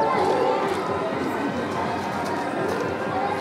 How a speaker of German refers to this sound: Ein paar Kinder rennen an den kleinen Steinhäuschen und Blechbuden vorbei.